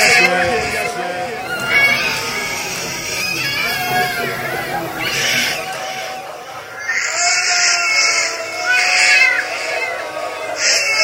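A recording of a baby crying in a steady run of high, wavering wails, each rising and falling in pitch, continuing loudly and almost without pause from start to finish.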